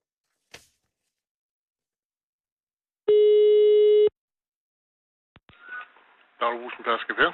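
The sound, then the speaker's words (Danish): After a faint click, a single steady electronic ringback tone sounds for about a second, then the line clicks open and a thin, phone-filtered voice begins speaking, as Radio 24/7 in Copenhagen phones the brugsforening grocery store in Pedersker (Persker) on Bornholm, Denmark. “Er du sød at ringe op”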